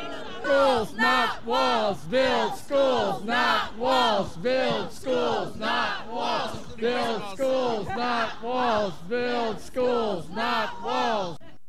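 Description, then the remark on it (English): A large crowd of marchers at a protest rally in Salem boos together in a steady, rhythmic chant while passing a counter-demonstrator wearing a Make America Great cap and a Build the Wall sign, loud voices repeating the sound over and over, roughly once per second. “The march is booing as we march by.”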